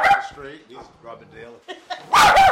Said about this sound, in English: Sitting at their kitchen table with their many small dogs around them